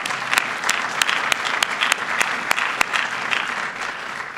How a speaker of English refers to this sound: You can applaud those fine men and women. They deserve it.